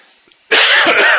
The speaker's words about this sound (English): I sneezed